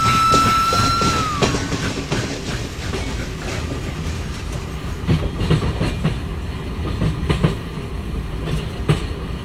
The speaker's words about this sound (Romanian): E un tren de marfă care circulă numai noaptea, ca să nu împiedice circulația trenurilor accelerate.